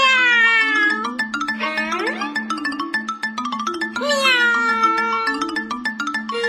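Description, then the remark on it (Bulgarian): A cat named Mirza meows several times in long, wavering calls that rise and fall in pitch, loud and insistent, over a steady low hum with faint ticking clicks. No one speaks. “А господарката само чака да мялниш и веднага вика, мог това, мог това.”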